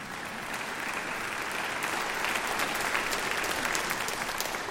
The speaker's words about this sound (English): How much do you think those kids actually lost? Yeah, go ahead and clap.